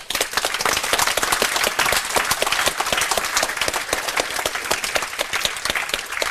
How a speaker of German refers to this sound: Dann fetten Applaus für Snock.